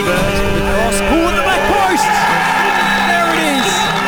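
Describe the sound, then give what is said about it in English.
A dense stadium crowd roars and cheers after a winning football goal by Kukulecki that makes the Preston Lions Premiership champions, voices whooping and shouting over one another in a sustained, loud wall of excited noise with rising and falling yells. “The crowd has gone wild, ladies and gentlemen.”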